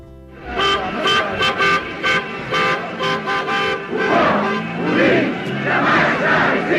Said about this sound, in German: Jubel auf Lissabons Straßen, nachdem aufständische Offiziere am 25. April 1974 die bisher langlebigste Diktatur in Westeuropa nach 48 Jahren gestürzt hatten.